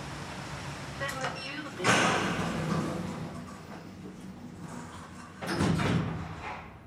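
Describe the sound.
A door slides open with a sudden rushing, rumbling burst, and a similar burst follows a few seconds later, set against steady background noise and faint voices.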